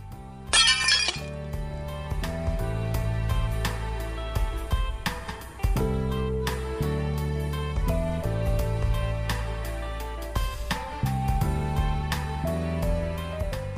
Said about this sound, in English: She's like, look, I'll find you some plates. You can smash some plates. So got home, I stood in the front of my house and I just smashed it to smithereens and I just burst out crying and just stood there.